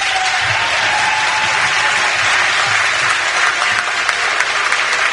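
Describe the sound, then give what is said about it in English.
A large crowd reacts to the governor with a loud, continuous roar of clapping and shouting, with scattered cheers and boos rising and falling throughout. No one speaks clearly over the noise. “We get some cheers and some jeers there on the governor.”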